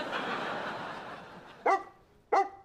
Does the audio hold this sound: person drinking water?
no